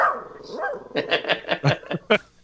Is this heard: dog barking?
yes